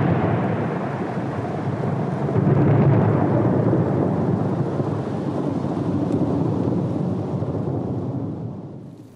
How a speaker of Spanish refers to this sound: Estábamos en la escuela cuando llegó la lluvia. La avisó un relámpago solo que partió al medio la tarde. Se oscureció todo.